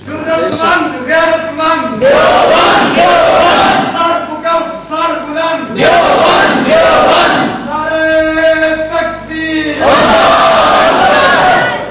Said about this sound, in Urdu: نعرہ لگاؤ تو گرج کے لگایا کرو, یا لگایا ہی نہ کرو. لگاؤ تو گرج کے لگاؤ, لگاؤ ہی نہ.